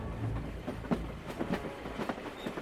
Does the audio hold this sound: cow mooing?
no